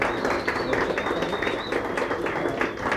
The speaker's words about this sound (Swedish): Mycket värt en applåd.